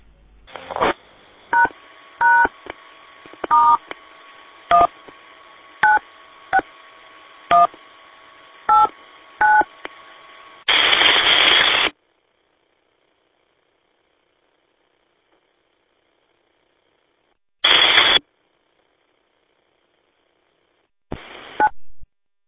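About ten short phone keypad beeps tapped out one after another at an uneven pace, clear, as someone types a text message reply, followed by several harsh bursts of static separated by silence.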